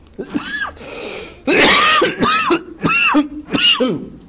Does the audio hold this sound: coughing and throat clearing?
yes